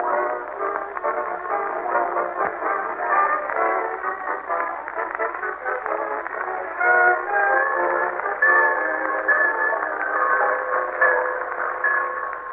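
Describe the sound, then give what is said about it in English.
Railroad station ambience at the Summerfield Railroad Station in The Great Gildersleeve with a train pulling in: a steady, dense rumble and hiss throughout, with sustained whistle-like tones emerging in the second half. Thin and band-limited, with no talking. “Now let's visit our friend, the Great Gildersleeve, as he and Marjorie and Leroy wait in the Summerfield Railroad Station for the arrival of that well-known authoress, lecturer, and second cousin, Octavia Gildersleeve.”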